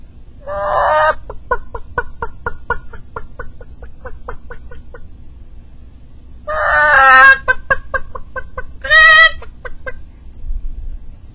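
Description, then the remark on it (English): A voice imitates a mother hen clucking in a barnyard: a steady run of short clucks, broken by three louder, drawn-out squawking bursts near the start, middle and end. “All the time she's out there, it goes something kind of like this.”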